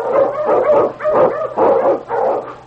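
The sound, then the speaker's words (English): A Malamute sled dog, an Eskimo lead dog, barks and whimpers in a run of five or so loud, yowling vocalizations, each rising and falling in a steady rhythm with no talking. “Come, King! Come, you Malamute!”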